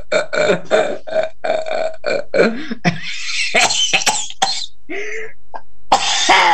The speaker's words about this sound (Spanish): Si me vino la picazón, tengo que toser ahora, no mañana. No. ¿Qué quiere, que me ahogue?